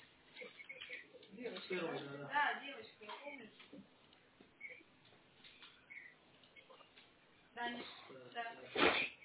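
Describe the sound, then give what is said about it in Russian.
People talk quietly, then a young girl lets out a single short, sharp sneeze right at the end. “Доча, закрывайся, пожалуйста, когда чихаешь.”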